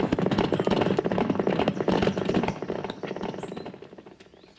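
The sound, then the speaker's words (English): Several horses ridden by a group of men gallop off together toward 18A Gallows Lane, a dense rapid drumming of hooves that stays loud for a couple of seconds and then gradually fades as the riders pull away. “Men, to horse!”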